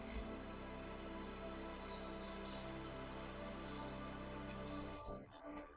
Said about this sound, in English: The rustling of the wind in the leaves and the field of birds accompany your walk.